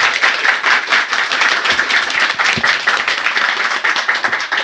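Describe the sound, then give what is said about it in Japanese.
Steady applause for a guest at the close of a show segment, many hands clapping densely, a bright sustained patter at even loudness throughout, no voices on top. “改めまして拍手をお送りください。”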